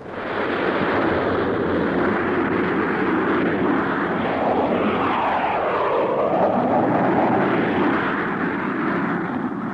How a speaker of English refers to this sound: Six jet fighters were taking off from Hink Field when Chuck Connor showed his pass and was passed into operations.